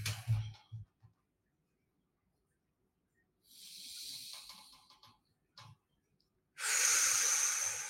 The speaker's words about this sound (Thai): ใครที่สะดวกนั่งนิ่งๆเงียบๆได้ผมขอให้คุณนั่งหลับตาครับโอเคลองหลับตาดูแล้วก็หายใจเข้าลึกๆครับ